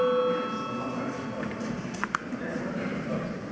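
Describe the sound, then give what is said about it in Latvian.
A steady electric bell rings continuously in a parliament to call a vote after a debate closes, a bright sustained tone over murmuring voices with some faint clicks and shuffling in the background. “Debates slēdzu. Lūdzu zvanu.”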